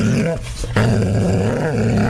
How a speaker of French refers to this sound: Pourriez-vous faire taire votre chien?